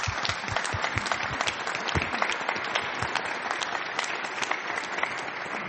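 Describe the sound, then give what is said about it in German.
Steady audience applause thanking committee chairs Daniela Kolbe and Stefan Sauer for their work fills the whole stretch, a dense crackle of many hands clapping at an even, sustained loudness with no talking over it. “Ich finde, das einen kräftigen Applaus wert.”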